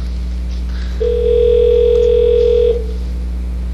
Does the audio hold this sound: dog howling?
no